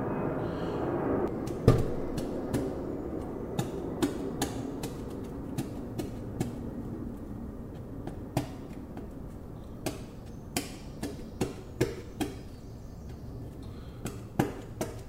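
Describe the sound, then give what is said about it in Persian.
A fork pokes holes all over an eggplant that is to be grilled, over and over, making short, sharp tapping clicks in an uneven rhythm, one louder jab near the start, with a low background hum and no talking. “خب یه بادمجون تو دستم دارم، اینو در حقیقت یه چنگالم اینجا دارم، اینو با چنگال یه سری سوراخ توش ایجاد میکنم.”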